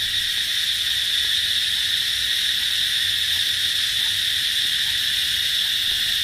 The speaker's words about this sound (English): That's cicadas. The noise of that is cicadas, and this report from the BBC explains it better than me. 2024 is witness to a once in 221 year phenomenon, and it's all about periodical cicadas.